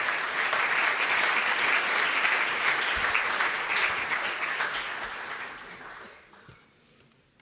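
An audience claps in a dense, steady burst of applause that holds strong for several seconds, then thins out and fades to a few scattered claps near the end.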